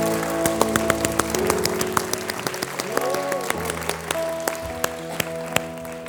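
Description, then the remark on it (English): An audience claps hands as fast as they can, a dense, steady patter of applause lasting several seconds, with sustained musical tones and voices mixed underneath. “I want you to clap them as fast as you can.”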